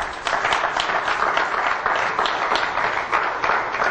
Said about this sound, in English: Let's give a hand of applause to all those who'll be watching by internet today.